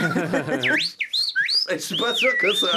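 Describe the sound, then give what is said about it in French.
A person whistles an imitation of starling song: swooping, warbling high notes and slides, with speech-like voiced sounds mixed in at the start and end. “C'est des étourneaux qui sont vraiment dans les zones anthropomorphiques.”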